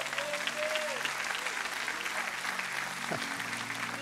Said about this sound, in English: Why are you clapping? I'm not even done with the story yet.